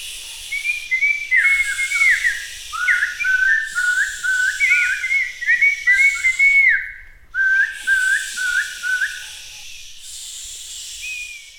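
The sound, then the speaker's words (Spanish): A bird sings a run of quick, warbling whistled phrases, repeated almost without pause and briefly breaking off midway, over a steady airy hiss; no one speaks. “Estos niños en la finca se divertían mucho porque ahí habían muchos árboles muy grandes con un aire muy suave y el canto de los pájaros.”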